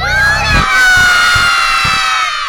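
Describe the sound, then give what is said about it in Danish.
A large group of children yell together at full volume after a count of three, a loud sustained chorus of high voices shouting "Julemand" (Santa Claus) in unison for a couple of seconds. “Så tæller jeg til tre, og så råber I alle sammen alt, hvad I kan.”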